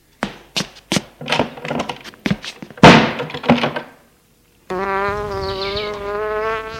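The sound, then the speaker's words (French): A kitchen door is shut with a run of sharp thuds and clunks, then after a brief silence a steady, high droning buzz like a fly sets in and continues to the end. “Il a fermé la porte de la cuisine.”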